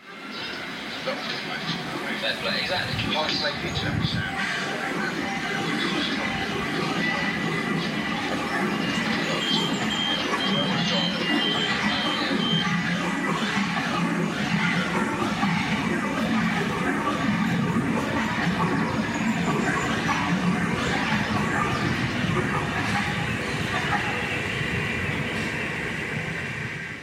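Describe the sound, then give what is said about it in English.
A sound piece composed entirely from recordings on the London subway: a dense, continuous wash of underground train noise, roaring and rumbling with metallic squeals and muffled voices, layered into a loud, immersive collage that never lets up. “Like this piece called Tube, which was composed entirely from recordings on the London subway.”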